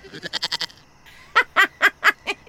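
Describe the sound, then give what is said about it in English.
A goat bleats in two quick bursts, first a rapid run of short stuttering calls, then after a brief pause a louder, close series of six wavering bleats. No one speaks. “And the fluffy kitty rises onto its hind legs and transforms into a heavily muscled man with the horned head of a goat.”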